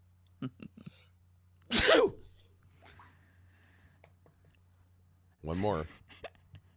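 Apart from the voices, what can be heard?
sneezing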